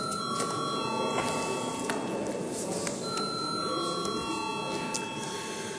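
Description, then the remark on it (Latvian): An electric bell in a parliament chamber rings steadily and loudly for several seconds before a vote on a bill, a continuous metallic tone over a low background murmur of voices and movement. “lūdzu zvanu.”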